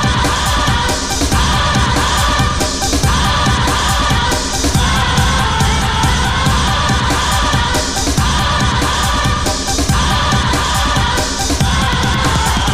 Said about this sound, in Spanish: Y hasta aquí ha llegado el programa 626 de Game Over, un programa con un gilipollas aplaudiendo de fondo. ¡Ah, no! ¡No es un gilipollas!